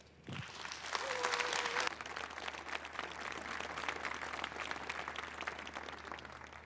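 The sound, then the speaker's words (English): A congress audience bursts into sustained applause welcoming the speakers of a talk, a dense crackle of many hands clapping that swells quickly, peaks early, then continues steadily for several seconds. A brief whistle-like tone rises over it near the start. “And yeah, welcome them with a big round of applause, okay?”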